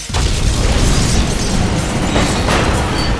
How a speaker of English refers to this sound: The floorboard shook with the power of the blast, and flame exploded into a funnel shape around the oak table.